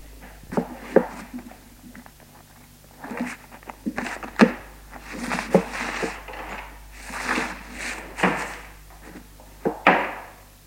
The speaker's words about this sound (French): Refermai la porte.